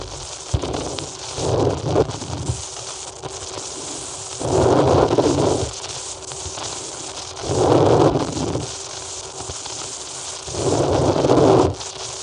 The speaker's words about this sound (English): The breathing that you hear, as I said, does not come from a human being. It comes from a machine.